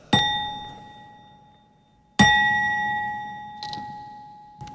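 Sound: temple bell being struck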